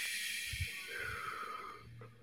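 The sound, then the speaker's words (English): A long, steady breath blown out through the mouth as one of five closing breaths in a breathing exercise, a soft airy hiss lasting about two seconds and slowly fading at the end, with no talking. “So just exhale out the mouth.”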